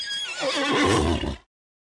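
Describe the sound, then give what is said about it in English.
A single loud neigh from Khan, the horse of Mulan's father, as Mulan jumps onto it: a bright whinnying shriek that trembles and then drops off abruptly after about a second and a half, with no voices. “As her parents slept, Mulan, now dressed as a young man, jumped onto her father's horse, Khan.”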